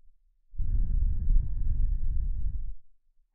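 A single long, soft exhale breathed right up against the microphone to lull the listener to sleep, a breathy rush lasting a couple of seconds before trailing off into silence, with no talking.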